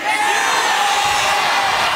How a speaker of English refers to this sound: we just want to say Chiefs Kingdom is one of a kind. So give a round of applause for everybody that's standing here today.